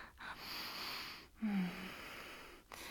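Heavy, breathy panting from two people catching their breath after sex, with a few rough inhales and exhales over a few seconds. One breath carries a low voiced groan. No talking.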